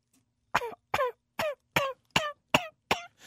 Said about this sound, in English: I think that's the first time I've ever coughed intentionally on No Compromise Radio.